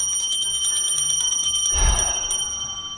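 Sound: bell ringing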